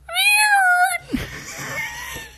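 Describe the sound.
A voice imitates a kitten with one high, wavering, drawn-out meow lasting about a second, loud, then breaks into breathy, noisy sounds.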